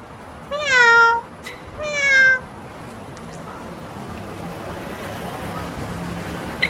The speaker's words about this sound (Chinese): 总共有两只猫，这些都是流浪猫，没有人养的。喵喵喵。那边还有一只，两只，哦，好多只猫啊。